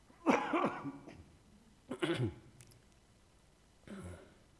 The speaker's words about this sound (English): Now the question for you is, sorry, Indian cough.